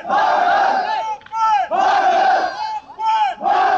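A crowd of several hundred protesting migrants calling on Hungary to open its border chants loudly in unison, voices rising and falling in repeated bursts with short pauses between each shouted phrase.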